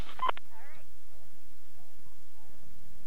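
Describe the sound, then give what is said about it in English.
A short burst of electronic telephone tones rings out right at the start on a radio call-in show, clear, then fades into quiet, muffled voice fragments over a low background hum. “The phone just don't stop ringing.”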